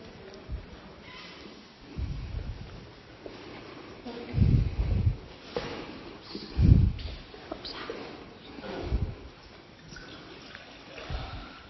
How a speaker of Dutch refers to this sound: We missen nog iets. Wil jij het water in de doopvond doen?